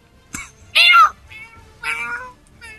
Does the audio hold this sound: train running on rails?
no